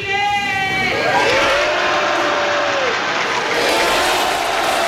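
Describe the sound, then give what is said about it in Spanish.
A single voice shouts "¡Viva Chile!" from the stands, drawn-out and echoing, and the Salón de Honor answers with dense, steady applause that fills the space and continues to the end, at the change-of-command ceremony in Chile. “Ahora sí, ¡viva Chile!, grita una persona en la grada que es respondido por todo el Salón de Honor con un aplauso.”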